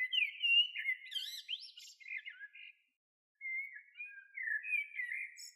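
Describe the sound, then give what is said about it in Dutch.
A bird sings a lively, warbling song of quick chirps and trills, with a brief pause midway before the cheerful phrases resume, clear with no other sounds. “Het lijkt of hij een liedje zingt, zegt Evert.”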